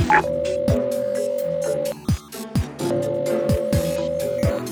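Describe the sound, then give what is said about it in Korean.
A phone call to Olive Cookie rings out unanswered in an empty place whose walls are covered in ones and zeros: two long, steady ringing tones separated by a short pause, heard over busy background music with occasional low thumps. “안 받네. 다시 한번 걸어볼게.”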